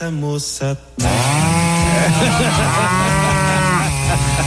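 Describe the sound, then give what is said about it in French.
A cow lets out a low moo, then a loud chainsaw suddenly roars to life and keeps running while the cow's drawn-out bellowing continues beneath it, harsh; presented as a recording from a Brazilian slaughterhouse. “J'ai réussi à me procurer un enregistrement d'un abattoir brésilien.”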